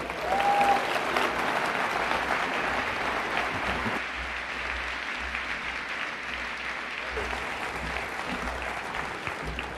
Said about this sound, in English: Let's give a big, big round of applause to Elon Musk.